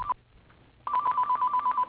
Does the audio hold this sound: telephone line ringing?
yes